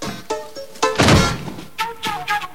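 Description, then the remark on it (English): A machete, taken from a holster on a belt, hacks into a dead man's arm with a series of dull, wet thunks, one heavy crunching blow in the middle louder and longer than the rest, followed by several sharper chops. No voices. “He puts Frankie's leg on a chair, then takes a machete from a holster on his belt and brings it down on the dead man's arm.”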